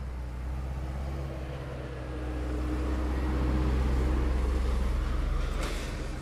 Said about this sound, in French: Voilà, il y a un tracteur qui passe.